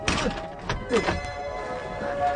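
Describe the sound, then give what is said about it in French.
The door of a lighthouse radio room swings shut with a solid, low thunk, followed by a couple of softer knocks as it settles, over a steady faint hum. “Je referme.”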